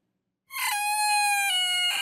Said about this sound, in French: c'est un coq qui chante bien trop tôt au goût des habitants de l'île d'Oléron en France